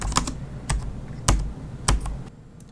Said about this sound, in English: I just thought, cute guy, hammering away at his keyboard.